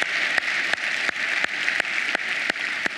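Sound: church audience applause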